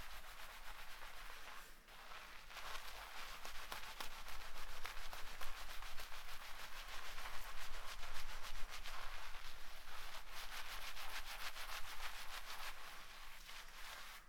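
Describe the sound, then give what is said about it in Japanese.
Steady rubbing and scrubbing of fingertips through a shampoo-lathered scalp, working gently from the side hairline toward the top of the head without using the nails, a continuous soft scratchy swish with quick repeated strokes and a brief pause near the start, no talking. “横の生え際から頭のてっぺんに向かって、爪を立てないように優しくシャカシャカシャカシャカさっきより触り心地が滑らかになってきたね。”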